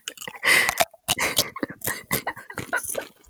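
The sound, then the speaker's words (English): Loud, crisp crunching of a Dorito tortilla chip being bitten and chewed, a run of sharp, irregular crackling bursts with short pauses between them and no voices. “I'm going to crunch it anyway, and this will just.”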